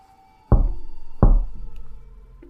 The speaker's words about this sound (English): The tiny hand that reached up to rap against the glass was corpse white. The tiny fingernails were an odd shade of bluish grey, as if the blood that flowed beneath was something other than crimson.